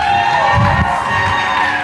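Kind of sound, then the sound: crowd, audience cheering and applauding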